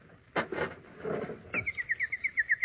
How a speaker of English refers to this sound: Do you hear? Listen. My little nightingale. She's come back to me.